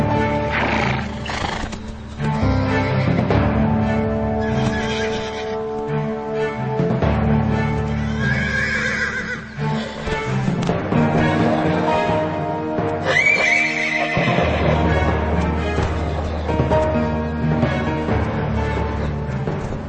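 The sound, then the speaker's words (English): Wild horse stallions neigh and whinny loudly and repeatedly, shrill calls overlapping with snorts and squeals as if several are fighting, over a steady low rumble. “Wild horses live in small herds, and Beringia would have been the scene of vicious battles between rival stallions.”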